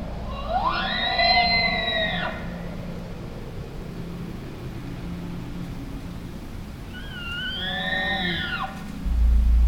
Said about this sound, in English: Can you recognize the bull elk bugling his challenge in the crisp fall air? Listen. He's calling to some of his friends now.